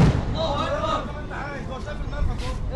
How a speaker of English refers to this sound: People who have been here for several days say these explosions are closer and louder than any they've heard so far.